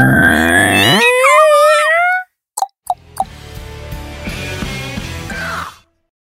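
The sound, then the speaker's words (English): A door-opening sound effect: a long, wavering creak rises in pitch as a door swings open, then breaks off into silence and a few sharp clicks before a busy, steady stretch of sound that continues, with no talking. “Door opening sound effect.”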